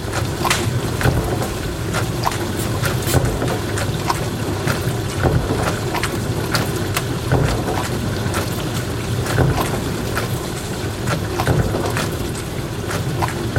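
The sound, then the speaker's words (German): A dishwasher runs with a steady low rumble while water sprays and sloshes inside, punctuated by frequent sharp splashes and clicks in an irregular rhythm. No one speaks. “Und dieses Geräusch wurde dir präsentiert von Spülmaschine. So spritzig, so platsch.”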